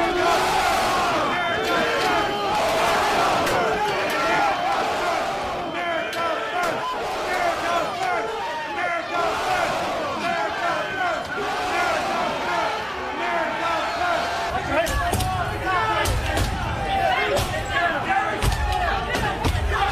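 A large, angry mob roars and shouts in chaos as it turns on police and sprays them with mace, with sharp bangs and thuds of things being struck breaking through the din, loud throughout.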